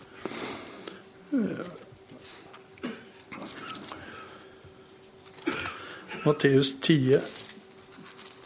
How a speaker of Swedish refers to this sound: Det blir mycket bläddrande idag.